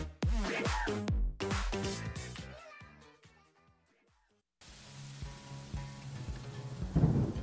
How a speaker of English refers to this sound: When it comes to a rainstorm, the soundtrack we hear is everything. Birds or thunder shape the mood and tell a story.